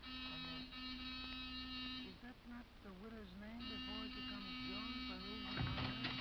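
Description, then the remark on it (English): A loud, harsh electric door buzzer, pressed by police at night, drones steadily, cuts out briefly, then buzzes again for several seconds, with voices talking faintly underneath. “Give the buzzer a punch.”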